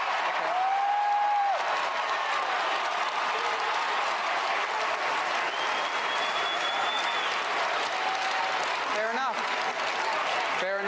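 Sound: crowd applauding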